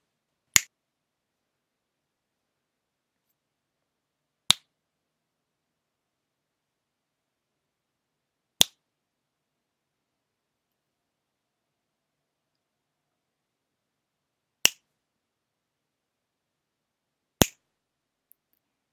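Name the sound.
finger snapping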